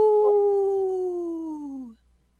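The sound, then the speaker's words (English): A lone wolf lets out a single long, steady howl that slowly slides downward in pitch for about two seconds before breaking off, leaving near silence. “Oh, man, y'all left me hanging with that lone wolf.”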